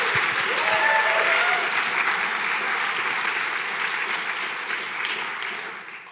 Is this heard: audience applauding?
yes